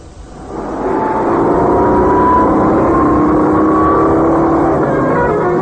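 The engine of a Citroën GS car drones steadily and loudly, swelling in over the first second, its pitch rising slightly as the car drives on while balanced on three wheels. No one speaks.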